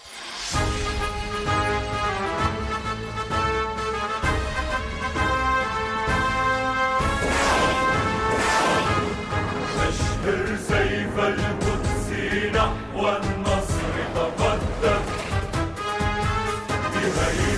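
A nasheed played on a radio program opens loudly and fills the whole stretch, with layered sustained voices or tones over steady rhythmic beats and a driving, anthem-like pulse that never pauses.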